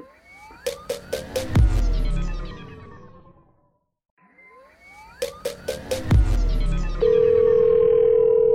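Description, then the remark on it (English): An electronic phone-call tone from a call placed on a cell phone plays twice: a burst of rising and falling chirps with sharp clicks, a short pause, the same pattern again, then a steady held tone. No talking. “And I was like, hey, we're going to call you on the podcast.”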